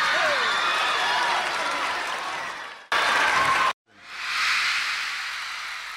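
Steady, loud audience applause welcoming a singer on stage tonight, a dense wash of clapping that breaks off abruptly twice, with a brief silent gap, before swelling back up and carrying on.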